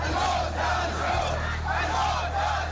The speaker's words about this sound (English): A crowd of protesters in the Saudi Arabian village of Al-Awaymiyah chanting down with the Saud after today's beheading of prominent Shiite cleric Nim al-Nimra and 46 others convicted of terrorism by Saudi Arabia.